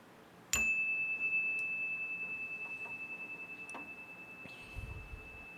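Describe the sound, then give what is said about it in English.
A single meditation chime is struck once to begin a moment of silent meditation. It gives a bright, clear high-pitched tone that rings on with a gentle wavering shimmer and slowly fades over several seconds, with no voices. “I'll ring the chime.”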